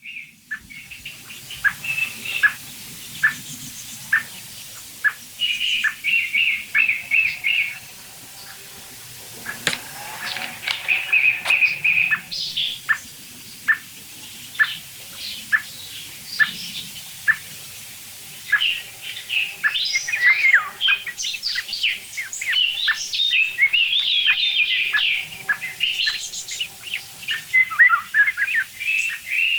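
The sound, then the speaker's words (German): A song thrush sings clearly, bright varied phrases with sharp repeated notes and short pauses between bursts, continuing for the whole stretch with no talking. “Hört euch diese merkwürdige Singdrossel an. Irgendwie klingt die doch special.”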